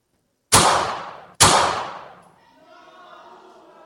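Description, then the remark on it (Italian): Two loud, sharp gunshots ring out about a second apart, each with a crisp crack and a short echoing tail, followed by a faint murmur of background noise. The shots are fired at a car passing slowly through a cheering crowd on a sunny morning in Sarajevo. “E subito dopo due spari.”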